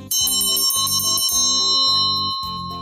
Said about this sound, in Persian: شکمش رو مالش میداد که یهو زنگ در خونه به صدا در اومد.